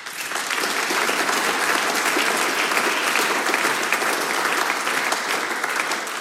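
Sustained applause from an audience for two singers: a dense, steady wash of many hands clapping at an even loudness for several seconds, with no voices rising above it.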